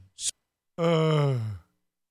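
A person yawns up close: a quick breathy intake, a brief pause, then a long voiced exhale whose pitch slides downward before trailing off into silence.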